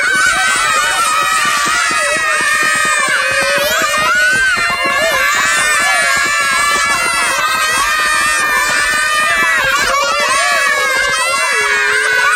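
A rowdy group of children shouting and shrieking together, loud, with scattered thumping footfalls underneath as they romp around and stomp their feet continuously.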